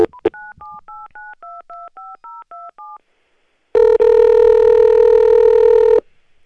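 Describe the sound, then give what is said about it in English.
A telephone keypad dials about eleven quick two-tone beeps in a steady rhythm to call back a cut-off caller, then after a short pause a loud, buzzy sustained line tone holds for roughly two seconds. No voices. “I cut him off. If he were here, that wouldn't have happened. Okay. Hi, you've reached 978.”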